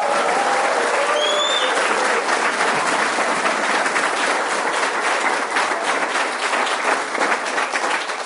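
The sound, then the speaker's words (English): A crowd applauds Professor Walter Block, the Mises Institute chess champion, steadily and loudly, dense overlapping clapping sustained for several seconds with a few faint whoops and scattered voices mixed in. “However, I have some interesting things to yap to you about, I hope, beginning with the fact that we should all cheer Professor Walter Block, who defeated me and is now the Mises Institute chess champion.”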